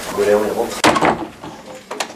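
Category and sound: household object, door being closed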